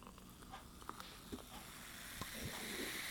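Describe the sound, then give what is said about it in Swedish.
Freshly opened and poured alcohol-free beer, not chilled, fizzing with a soft continuous crackling hiss dotted with tiny pops that grows slightly louder toward the end. No one speaks. “Bubblar fint, som den ska.”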